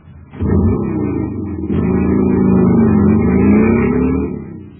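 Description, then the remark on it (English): A jet cycle engine, filled with super fuel at a filling station, roars loudly and steadily, its low droning pitch wavering as it revs, with a brief dip early on before the roar resumes and then cuts off. No one speaks. “Man, that cycle's roaring like a rocket now because it's supercharged with super fuel.”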